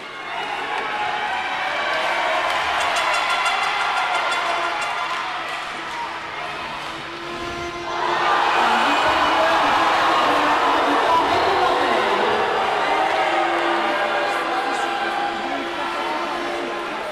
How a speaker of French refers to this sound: C'est sous une grande acclamation de la foule orléanaise que le match a débuté, les supporters étaient présents et se faisaient entendre.